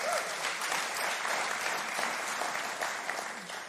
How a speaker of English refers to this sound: Few smattering of applause, no booze, I'll take it.